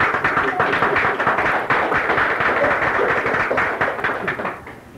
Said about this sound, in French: Alors, comme vous pouvez le constater, il y a plein d'énergie ici. Il y a la foule. Nous applaudissons la foule.